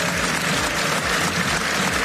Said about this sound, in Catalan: amb una llarga ovació i fins i tot amb algun puny alçat.